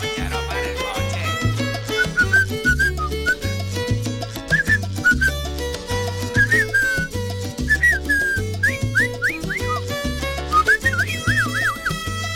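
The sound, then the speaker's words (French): A person whistles a lively, sliding melody over a bouncy musical backing with a steady bass beat, the whistle clear and upfront, with short phrases and quick trills toward the end. “Ça, c'est même qui siffle ça.”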